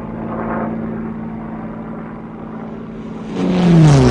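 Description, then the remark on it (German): A propeller plane engine drones steadily, then surges louder near the end as its pitch shifts and wavers while the engine cuts out, its fuel running out. No voices. “Ich muss runter, mein Motor geht aus.”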